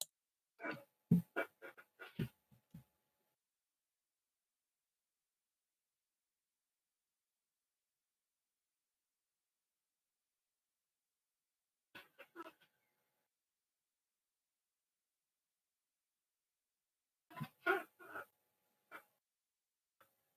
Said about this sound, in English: Someone's typing.